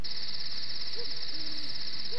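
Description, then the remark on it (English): Crickets chirp in a steady, rapid high-pitched trill that runs unbroken through the whole stretch, with a couple of faint, low hoots sounding softly in the background. “Crickets.”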